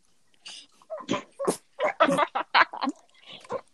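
A dog makes a run of about a dozen short, breathy snorts and whiny yelps in an uneven rhythm, moderately loud, with no one talking over it.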